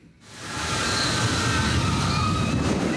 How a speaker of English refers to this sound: Oh, it's a big splash. I wish we could watch it again in slow motion and how close. Let's watch it again in slow motion, but see what's really happening. That was convenient. Look at that wave.